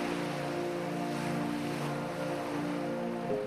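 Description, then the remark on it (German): Gentle waves of the world's oceans wash in a soft, steady hiss with no clear breaks at night, while a constant low humming drone runs underneath. No one speaks. “Das leichte Rauschen der Weltmeere weht uns aus jeder Richtung entgegen.”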